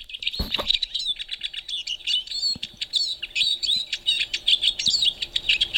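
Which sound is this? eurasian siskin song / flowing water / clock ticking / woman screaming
eurasian siskin song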